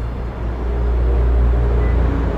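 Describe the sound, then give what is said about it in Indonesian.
A car accelerates out of a basement car park, its engine a loud, steady low rumble that swells slightly after the start and holds throughout, with no voices. “Aku langsung memacu mobilku untuk keluar dari basement itu secepat mungkin.”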